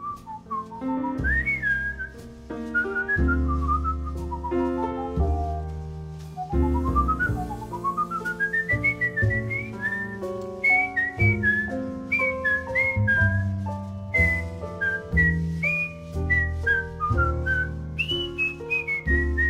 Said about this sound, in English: So is that you on the record, …? Is that you whistling?